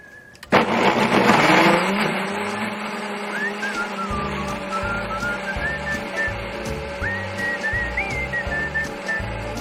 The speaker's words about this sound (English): And then we're going to blend this all up. You can use a blender or food processor, whichever you have.